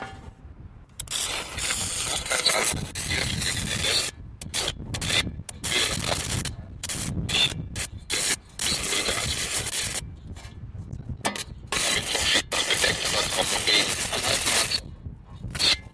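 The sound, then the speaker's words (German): Electrical sparks arc between a shovel and one of three steel guy wires holding up a radio transmitter mast. The sparks follow the rhythm of the broadcast programme while the shovel vibrates like a loudspeaker, making a harsh, buzzing crackle in irregular bursts and brief gaps, loud and steady throughout with no voices. “Der Sendemast schlägt Funken im Takt des Programms, die Schippe vibriert wie ein Lautsprecher.”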